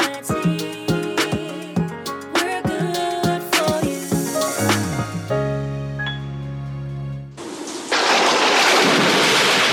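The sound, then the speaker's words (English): A melodic musical jingle with plucked notes and a held chord gives way to a sudden, loud roar of a thunderstorm, heavy rain and rumbling thunder filling the final couple of seconds. “After a hurricane or storm, get the Nassau Guardian's Hurricane Guide.”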